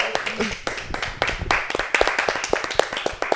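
A short burst of applause from a small group: brisk clapping with sharp overlapping claps that keeps a steady pace for a few seconds, with faint voices mixed in.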